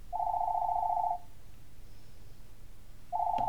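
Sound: home telephone ringing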